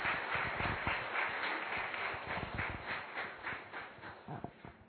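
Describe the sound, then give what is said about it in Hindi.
A crowd applauds steadily at a valedictory session, with many overlapping claps forming a dense, loud patter that holds for the whole stretch and thins slightly toward the end. “जोरदार तालियां आप सभी के लिए।”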